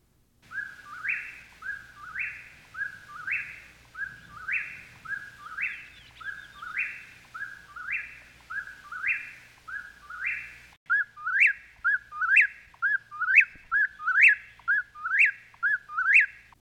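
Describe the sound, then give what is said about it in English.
A bird, recorded with a parabolic reflector, sings a short whistled phrase over and over at a steady, quick rhythm, clear against a quiet background, switching partway through to sharper, brighter rising notes. “And the second recording is again using the parabolic reflector. Listen to the difference.”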